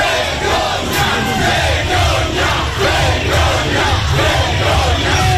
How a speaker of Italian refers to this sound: Boicottare Israele, fuori la guerra dall'università, sono stati gli altri slogan dei manifestanti che sentite in sottofondo.